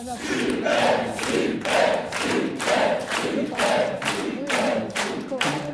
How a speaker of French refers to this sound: On vous applaudit, bravo.